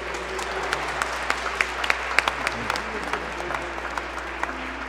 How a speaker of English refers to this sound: So let's stand now after a great celebration today, grateful to God's men, the great eight, for praising God today, grateful for their ministry. Yes. A round of applause for the great eight.